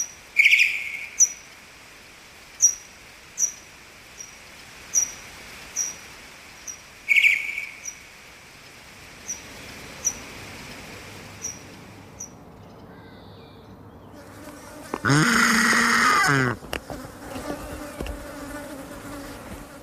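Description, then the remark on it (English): Pipistrelle bat echolocation signals and contact calls, recorded with an AudioMoth at a high sample rate in a back garden as the bats hawked up and down, slowed down 8 times: a steady series of evenly spaced, chirpy sweeps that fade, then a loud, harsh buzzing burst lasting over a second, followed by scattered softer clicks. “Using an audio moth at a high sample rate, I was delighted to record these pipistrelle echolocation signals and contact calls, here slowed down 8 times as the bats hawked up and down the garden.”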